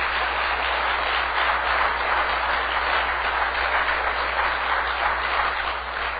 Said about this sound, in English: I'll ask first of all, how many have ever been healed of something in the house of God? I want you to applaud the Lord.